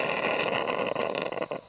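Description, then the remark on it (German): A coffee machine, quickly switched on in the morning, runs with a steady, loud mechanical whirr and buzzing drone that holds for under two seconds, a few brief dips toward the end and no voices. “Schnell die Kaffeemaschine angemacht.”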